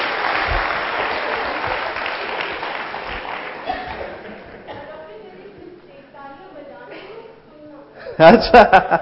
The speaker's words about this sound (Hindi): अगर इस जन्म ने आपने अपना तालियों का कोटा पूरा नहीं किया तो अगले जन्म में कंपल्सरी तालियां बजानी पड़ेगी. सो तालियां बजाओ, अच्छा मौका है, थोड़ा बाहर वालों को पता चले.